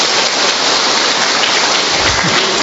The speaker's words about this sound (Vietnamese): Tạ ơn Chúa và cảm ơn nhau một tràng pháo tay thật lớn thưa anh chị em.